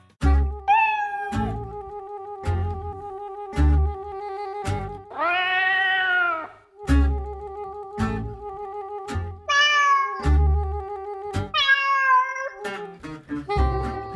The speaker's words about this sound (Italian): raccontiamo di un altro gatto, che è il gatto balinese.